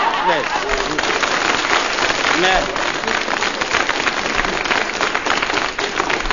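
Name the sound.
shower water running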